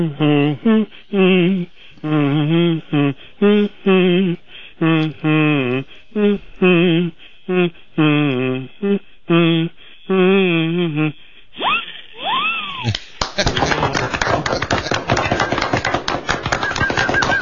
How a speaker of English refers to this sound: Now, your kazoo is a professional model. It actually sounds almost like humming.